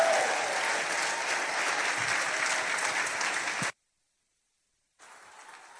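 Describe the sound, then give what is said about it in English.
A crowd claps steadily in a dense, continuous wash of applause that cuts off abruptly, followed by a second of silence before softer clapping resumes. “While you're clapping, the Bible says the redeemed of the Lord ought to say so.”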